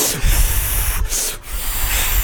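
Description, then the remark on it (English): Continuous rubbery squeaking and friction as a balloon is twisted into a little ghost balloon animal, steady and fairly loud, with two brief pauses partway through and no voices. “Do you kids like balloon animals?”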